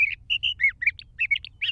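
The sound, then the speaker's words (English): A Sage Thrasher sings a rapid, continuous warbling song of varied whistled notes and slurred phrases, clear, over a faint low rumble with no voices. “As for the Sage Thrasher, he's still going strong.”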